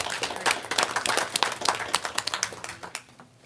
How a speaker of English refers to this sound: So thank you, Sodexo, and for all that you do for us. I think they deserve an applause.